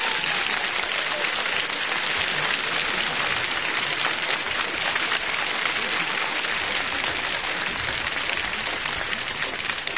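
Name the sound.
warm applause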